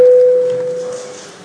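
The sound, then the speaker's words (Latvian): A single steady electronic signal tone, clear and fairly loud, calls a vote in the Latvian parliament (Saeima) on a bill amending the law on support for Ukrainian civilians. It holds for nearly a second before cutting off, leaving a faint hush. “Uz zvanu balsosim par likuma projektu grozījumi Ukrainas civiliedzīvotāju atbalsta likumā otrajā galīgajā lasījumā.”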